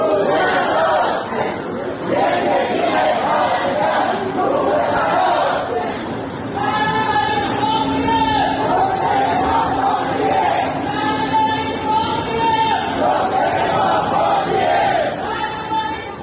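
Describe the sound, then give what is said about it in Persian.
A loud crowd of protesters, medical staff of Imam Khomeini Hospital in Alborz province, Iran, chants a changed old slogan in unison on a Monday street protest, with repeated rhythmic phrases rising and falling over a steady roar of many voices. “بنابر گزارش‌ها گروهی از معترضان روز دوشنبه کادر درمانی بیمارستان امام خمینی بودند که با تغییر یک شعار قدیمی فریاد می‌زدند: عزاست عزاست امروز، روز عزاست امروز، زندگی پرستار روی هواست امروز.”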